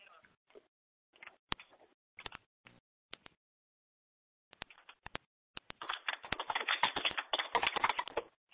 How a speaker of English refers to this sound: Well, I can hear you typing, but, you know, you might want to actually say it.